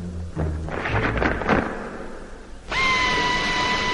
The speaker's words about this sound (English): Immediately, there came the now familiar, rasping sound of the warning for all doors in our section of the asteroid to be closed.